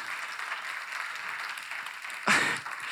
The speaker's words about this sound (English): And the people here are clapping.